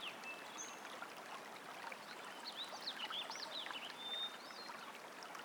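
A stream flows steadily beneath a bridge, a continuous babble and rush of water with no voices, while faint bird chirps flicker high above the wash.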